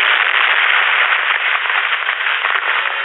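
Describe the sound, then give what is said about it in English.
A police car toppling into a ravine and exploding: a loud, dense crackling roar that stays steady for about three seconds, somewhat muffled, with no voices. “the police car topples and falls down, down into the ravine. The explosion illuminates the world below.”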